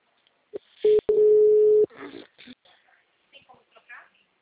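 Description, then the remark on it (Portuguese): A loud, steady telephone tone at a single mid pitch, briefly interrupted once and lasting about a second, followed by a recorded voice saying in Portuguese that the call is being forwarded to voicemail. “Sua chamada está sendo encaminhada para a caixa postal”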